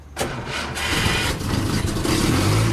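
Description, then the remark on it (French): An old car engine cranks and catches, then settles into a loud rumble that swells as it revs, with no voices. “Et oui, ça sent la vieille voiture.”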